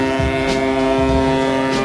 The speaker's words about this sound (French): Pour ses fans, il a créé une chanson avec un bruit de klaxon.